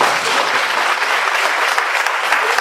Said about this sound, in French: Je vous prie d'applaudir le comédien humoriste Sow Bailo.